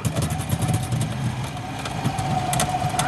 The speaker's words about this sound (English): Then they use a winch on the boat to dislodge the log from the mud.